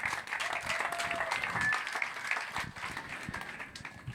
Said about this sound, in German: So, nochmal ganz kurz Applaus an unsere Bürgermeisterin.